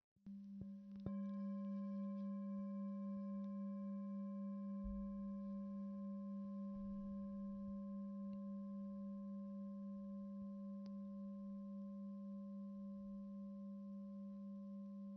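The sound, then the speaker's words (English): A single bell is struck once and rings on with a low, steady hum and several clear overtones, its tone fading very slowly over about fifteen seconds with no voices. “Noticing the sound of the bell passing through time.”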